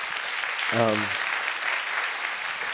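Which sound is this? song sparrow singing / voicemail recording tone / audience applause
audience applause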